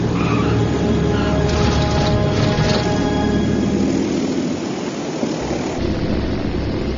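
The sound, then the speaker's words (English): A propeller plane's engine roars steadily under throttle, a dense droning hum with a faint rise in pitch, continuous for the whole stretch with no voices. “Here's throttle. Roger. Hold. Just control it. Let that tail come down.”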